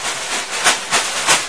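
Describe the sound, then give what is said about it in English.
A bag being rustled while making cakes, a steady crinkly hiss with three louder crackling surges at regular intervals, no voices. “Right, stop rustling it now.”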